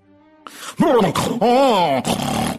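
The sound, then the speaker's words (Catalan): A person imitates a donkey's bray: a brief soft tone, then loud, harsh, strained hee-haw calls in several swooping pulses that rise and fall in pitch, with no other sounds. “I l'ase va marxar trist, molt trist.”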